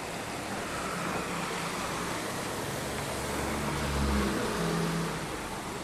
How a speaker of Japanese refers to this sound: ああ、びっくりした。車が僕のすぐそばを通った。ホンダアコードですね、今これがね。